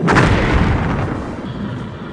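A loud, booming blast as clamps release a dropship that plunges through the floor into the air below, then rolls into a deep, sustained rumble that slowly fades over a couple of seconds, with no voices.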